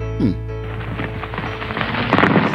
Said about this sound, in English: I just got the end of the explosion. Some of the rubble there.